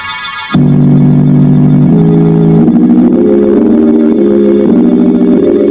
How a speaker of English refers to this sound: Well, I laid one hand flat on several keys of the organ like this. At the same time, the other hand runs up and down the keyboard in an entirely different key like this.